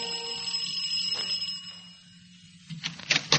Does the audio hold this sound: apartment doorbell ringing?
yes